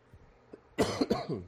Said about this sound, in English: I apologize for my coughing.